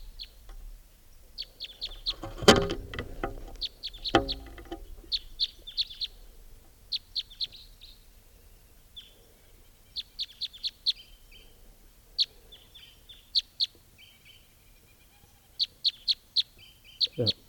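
bird calls

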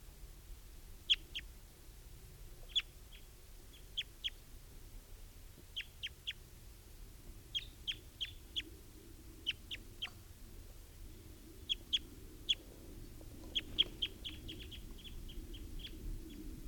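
wild bird calling

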